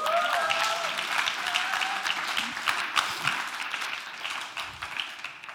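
A crowd applauds steadily, many overlapping claps forming a dense, even wash at moderate volume for several seconds, with a few brief whistle-like tones near the start.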